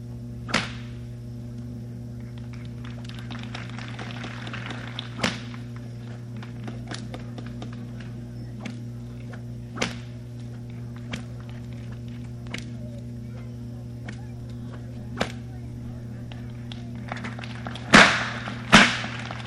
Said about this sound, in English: So the chances of hitting somebody is greater, but we are going to demonstrate the long whip for the use of paper.